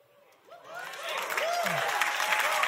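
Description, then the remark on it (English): An audience breaks into applause that swells from a quiet start into steady, dense clapping, with a few scattered whoops and voices rising from the crowd. “That's about the right amount of applause.”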